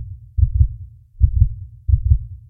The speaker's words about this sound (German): Mein Herz schlug gegen meine Brust, das laute Pochen füllte die Stille zwischen dem Klopfen.